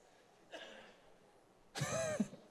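Someone in an audience coughs: a brief, faint cough followed by a louder, rasping cough with a throaty edge, with no talking.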